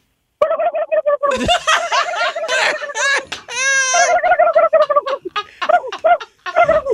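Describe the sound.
A person imitates a turkey's gobble with loud, rapid, warbling throaty bursts and wavering high pitch, sustained for several seconds with short pauses between phrases.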